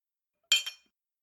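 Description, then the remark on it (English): Two quick, bright clinks of drinking glasses touching in a toast, each with a short ringing tail, followed by silence. No voices. “Cheers.”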